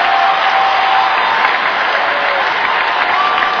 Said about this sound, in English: Let's hear it for the Doctors. Let's hear it for Infensys. Let's hear it for Clan Capital. Come on, fellas, a huge round of applause.